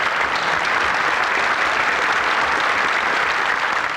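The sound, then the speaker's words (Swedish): Sustained, steady applause from a large crowd in a parliament plenary chamber, the day's longest applause, given to one of the guests; dense clapping filling the whole four seconds at an even, fairly loud level with no pauses or voices standing out. “De latinamerikanska statscheferna lunchar med den svenska delegationen och det var en av gästerna här som fick dagens längsta applåd i plenisalen.”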